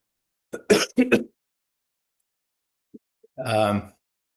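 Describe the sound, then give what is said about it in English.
A person recovering from COVID gives a few sharp coughs in quick succession, then a pause with small mouth noises, followed by a rough, drawn-out throat clearing. “This is the first time I've coughed.”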